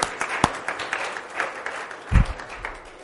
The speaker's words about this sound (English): That's right, we can clap again. Yeah.